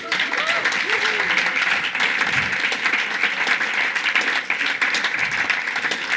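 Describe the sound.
Steady applause from an audience honoring a back-office staff member, a dense even patter of many hands clapping, with a few faint voices calling out underneath.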